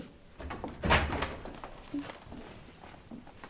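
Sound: door being opened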